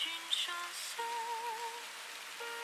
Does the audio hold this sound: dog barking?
no